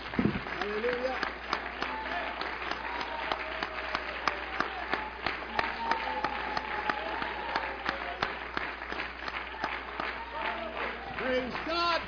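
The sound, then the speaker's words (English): A church audience claps together as people are being seated after a prayer, a dense, sustained burst of applause lasting several seconds, with scattered voices calling out and murmuring underneath the steady crackle of hands. “One more hand clap as you're being seated.”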